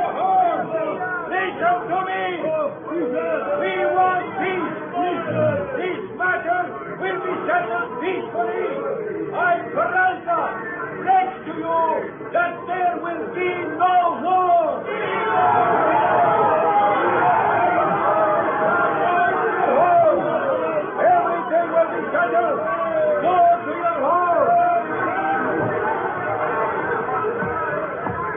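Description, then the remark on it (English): An angry mob below a flag-draped balcony shouts in a dense, continuous roar of overlapping voices as a colonel tries to quiet them, individual cries rising and falling throughout, with the clamor swelling louder and fuller around the midpoint and staying intense to the end. “There's a large flag draped over the balcony rail, and behind it stands Colonel Peralta trying to quiet the angry, shouting mob below.”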